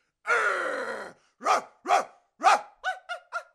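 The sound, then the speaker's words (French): A dog gives a sustained, rough growl, then barks three times at a measured pace before breaking into a quicker run of sharp yaps; no one speaks. It is part of an advert for the stage vaudeville Le saut du lit. “Mais c'est qu'elle mordrait cette sale bête.”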